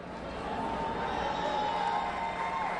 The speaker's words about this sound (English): those cheers in the background were for him. The crowd seems pretty supportive, probably because they know they're stuck together for a couple days.